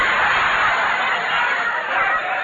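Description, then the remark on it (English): A canary squawks loudly and harshly without pause, a dense, raspy chatter filling the whole stretch with no voices present. “I've had enough of this grind with you and that kid and the canary yapping around.”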